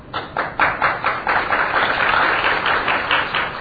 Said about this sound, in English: What is this clapping? Then you are understanding English. Yeah. Eh? Then the no need of speaking. They're giving, clapping. Proof.